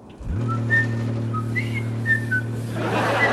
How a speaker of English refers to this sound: Holly rolls away on his portable monitor, wearing a cloth cap and a warm scarf round his neck. Lister and the cat scrub the floors in time to his whistling.